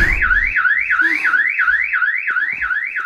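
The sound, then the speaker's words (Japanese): A loud, steady alarm wails up and down in fast, regular sweeps, about three cycles per second, with a faint low rumble beneath and no voices. “足音だと？この警報音の中で？”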